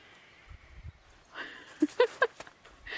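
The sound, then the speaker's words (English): A mare named Curry (Courier's Lucky Lady) walks up to say hello, her hooves clip-clopping, a few soft thuds followed by a quick run of sharper clops, fairly faint, with a little voice sound mixed in. “And here's a horse coming to say hello.”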